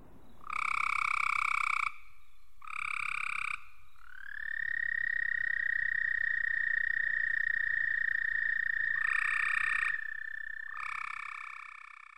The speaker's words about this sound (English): Let's start with this recording of an American toad.